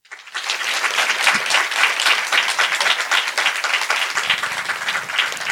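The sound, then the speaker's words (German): An audience claps steadily and loudly for several seconds at the host's request, a dense patter of many hands starting abruptly and holding at a fairly even level, with no talking over it. “Jetzt euer Applaus für Bass oder Base, der oder die gefragt hat, wie es mit Donnys Ostwestfälisch steht. Euer Applaus.”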